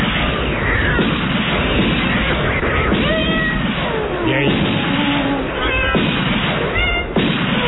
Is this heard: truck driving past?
no